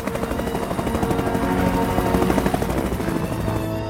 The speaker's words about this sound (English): A helicopter crosses the Russell Glacier, Greenland. It swoops over the jagged peaks.